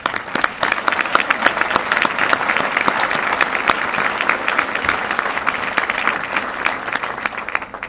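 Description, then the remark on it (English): Sustained applause from an audience for past winners of a Volunteer of the Year Award as they stand, thanking them for their volunteer service: a dense, steady patter of many hands clapping at even loudness for the full stretch, with no voices standing out above it. “Please stand up so that we can applaud and thank you for your volunteer service.”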